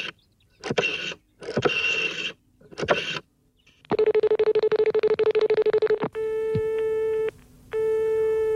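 Telephone line tones, with a few short crackly bursts first, then a loud buzzing, rapidly pulsing tone, followed by two long steady beeps, all clear with no one speaking.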